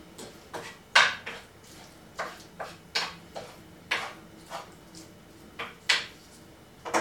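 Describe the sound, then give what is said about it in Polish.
A wooden spoon stirs and spreads food around a frying pan over a lit flame, with a dozen or so irregular knocks and scuffs over a soft background hiss. No one speaks. “Akurat mam w ręku łyżkę, więc będę mieszała łyżką i rozgarniam to wszystko po całej patelni.”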